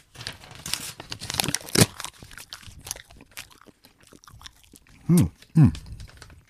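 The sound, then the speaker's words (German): Crackling rustle of printer paper being handled and torn in half, with sharp ripping strands over several seconds, followed by two short, loud voiced sounds near the end. “Warte, hast du nochmal Papier da? Ist bei dir. Oh ja. Aus dem Drucker direkt. Gib mir die Hälfte ab.”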